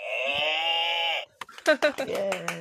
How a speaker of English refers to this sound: if you can give us your one last cow buzzer moo for the road.